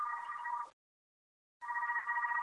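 A telephone rings in two steady electronic bursts separated by a short pause, fairly loud, with no voices.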